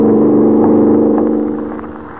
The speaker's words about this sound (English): They've got a fast car, but we're stepping right along.